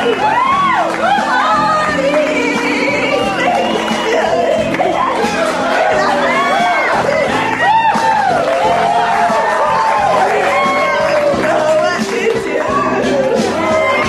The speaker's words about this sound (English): They're cheering her on, answering the question, were they drinking as well?